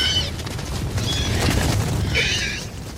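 A Gallimimus dinosaur call effect made from the sound of a horse in heat, chopped up, raised in pitch and panned left and right: three shrill, squealing cries spaced about a second apart, each high-pitched and wavering, over a steady low rumble that fills the background throughout.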